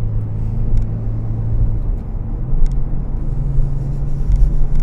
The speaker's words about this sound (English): Got a new one, this delightful little 911. Oh, just love this car.